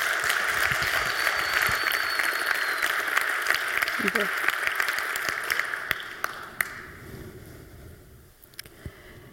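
A crowd applauds steadily, a dense wash of many hands clapping that carries on for several seconds before thinning out and fading toward the end.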